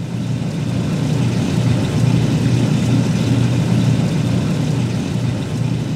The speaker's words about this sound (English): This is from Gentle Cycle, 8 minutes of the sounds of the washing machine.